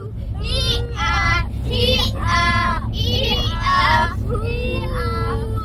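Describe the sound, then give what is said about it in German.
Three children's high-pitched voices chatter and call out in quick overlapping bursts inside a moving bus on a tour, taken to escape nasty weather, over a steady low engine rumble that continues throughout. “Wir sind ein Stück gefahren, haben die drei Kinder drin, so hört sich das an.”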